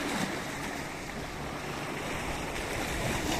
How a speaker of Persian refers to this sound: این ویدیو زیبا رو میگیرم برای شما همراهان محترم این سایت، برای این حس زیبای دریا و صدای آرامش. خواستم لحظاتی که اینجا هستم رو با شما هم به اشتراک بذارم.